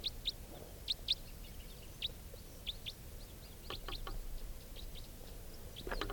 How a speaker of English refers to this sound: Flying towards the songster. Now up in the same tree. Stop. Recording the wild birds again.